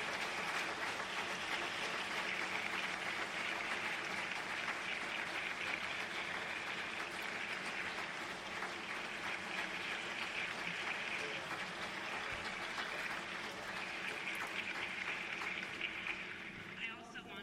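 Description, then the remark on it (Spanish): Sustained applause from a sizable audience for the people who took part in the processes, many of them present, a dense steady clatter of many hands clapping at an even loudness for the whole stretch, with no voices standing out. “Muchos de esos participantes están en esta sala, algunos no, y pienso que ellos merecen un aplauso.”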